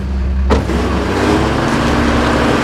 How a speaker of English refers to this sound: The truck surges forward, towing a canister.